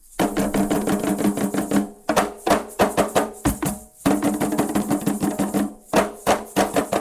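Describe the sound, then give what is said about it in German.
Five men and two women sing together over fast, steady hand drumming on a dusty, hot patch at the edge of a football field, the beats sharp and rhythmic, with a brief break in the pattern before the chant and drums resume at full energy. “Er hatte auch nie eine Chance gegen die Kraft der 5 Männer und 2 Frauen, die den staubigen heißen Flecken am Rande eines Fußballfeldes mit Gesang und Trommeln überziehen.”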